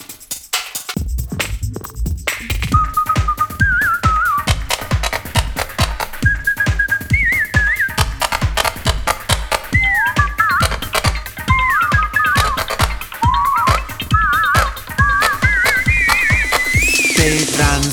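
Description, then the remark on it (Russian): A whistled melody of short, wavering phrases rises and dips over a steady, pounding dance beat, the tune entering after a brief intro and carrying on loudly to the end. “оно не плачет, а только модные мелодии. Модные мелодии свистит.”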